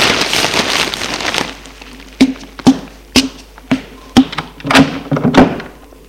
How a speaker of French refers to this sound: Il se lève pour entrebâiller la porte de la chambre.